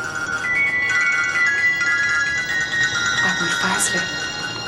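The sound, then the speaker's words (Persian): A mobile phone rings with a steady electronic ringtone of sustained high tones, playing continuously at moderate volume over a hissy, noisy background, with a brief clattering rustle near the end. “چه خوب کردی زنگ زدی، شارژ موبایلم تموم شده بود.”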